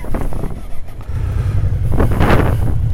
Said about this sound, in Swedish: Det blåser. Fin väder har vi. Relativt soligt.